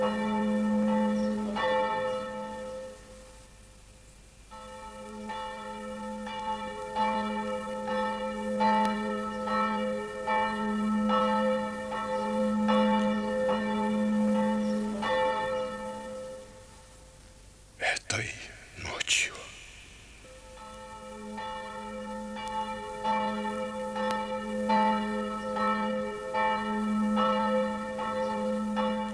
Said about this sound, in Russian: В этот момент ударил церковный колокол.